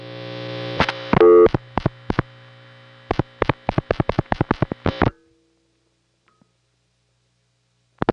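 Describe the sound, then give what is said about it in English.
A steady electrical hum of an idle telephone line in a residential neighborhood, heard between phone calls, broken by a rapid series of sharp clicks before it abruptly drops to near silence. “The hum that you hear in between phone calls is just the sound of an idle line in my neighborhood.”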